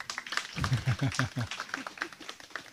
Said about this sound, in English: She's a good translator because I speak long sentences and she remembers everything. It's not easy. You give her a little applause.